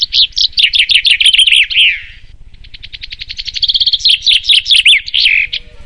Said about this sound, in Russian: Зяблики – певчие птицы семейства вьюрковых, распространены в Европе, Западной Азии и Северной Африке. К участию в чемпионатах допускаются только особи мужского пола.